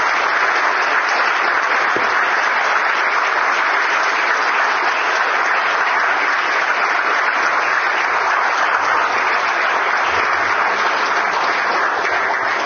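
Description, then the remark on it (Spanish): Sustained applause from an audience in honour of the sociologist Javier Silva, a dense steady wash of many hands clapping at even loudness with no pauses and no voices. “Y para el que voy a pedir un fuerte aplauso, que es el sociólogo Javier Silva, que mucho suelo.”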